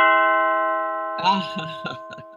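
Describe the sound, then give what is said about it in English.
A doorbell chime rings out in a steady, sustained tone that slowly fades, while a voice starts talking over it about halfway through. “We're going to do this doorbell.”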